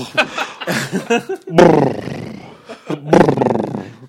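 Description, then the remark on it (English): A person imitates snoring with their voice, making several loud, raspy, growling snorts, with short pauses between the rough bursts. “It's just snoring.”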